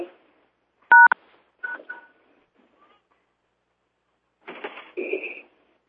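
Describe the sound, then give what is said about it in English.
A few short telephone keypad tones beep in quick succession, fairly loud, as someone presses #1 on a phone to join a call, followed by brief electronic blips and a burst of clattery noise with a steady tone. “So I suggest one at a time, try using your phone. What is it, #11, is that it? It's #1.”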